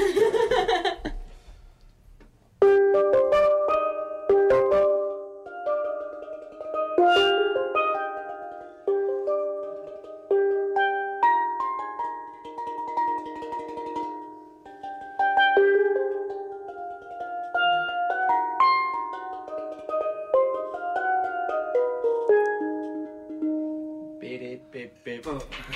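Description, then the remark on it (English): A tenor steelpan plays a bright, ringing melody, its metallic notes rising and falling in a lively rhythm for about twenty seconds, with a brief voice at the start. “Yeah, I was first introduced to tenor pans, which we actually have a tenor pan in here right now.”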